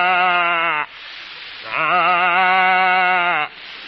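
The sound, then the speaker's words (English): A human voice imitates a calf calling for its mother: two long, wavering bleats, the second much longer, loud with a short gap between them. “A calf calling for its mama.”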